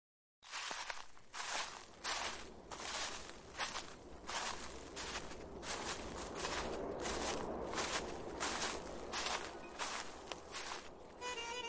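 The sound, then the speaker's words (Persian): Steady footsteps crunch along at an even walking pace, about twenty crisp steps with a gritty, crackling texture underfoot, heard alone without any talking. “صدای پای رفتن پاییز رنگارنگ و آمدن زمستان سپید می آید.”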